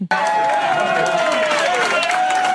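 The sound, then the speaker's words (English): A comedy show crowd bursts into loud, sustained applause for the idea of bringing back the feature act, with cheering and shouting voices mixed in, starting abruptly after a split second of quiet and holding steady to the end. “That's the applause for that idea.”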